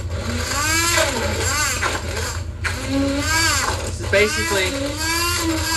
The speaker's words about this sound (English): It's basically just a handheld blender. And I've never used one of these before. It's gonna make everything. We're getting now that I'm using it a little bit, getting a little bit of a thin paste.